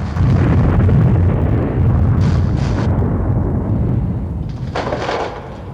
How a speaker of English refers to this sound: He stands back against the wall as the room is rocked by a tremor.